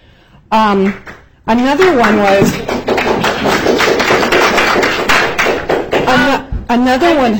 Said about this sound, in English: Another one. Hold on a second. I've asked, now this is my third time, about no clapping. I know you guys are really passionate and everything, but I'm just going to ask you to turn your listening ears on.